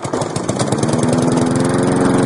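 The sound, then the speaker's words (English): A lawn mower engine drones steadily and loudly, its rough, pulsing motor note holding constant throughout with no voices present. “the town council has turned to cows instead of lawnmowers to keep parks and other green spaces neat and trim”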